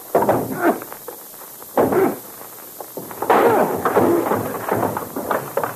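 A door on the top floor of a building being kicked in: a few heavy, booming thuds at uneven intervals, loud, with rattling and clattering between the blows as the door gives way.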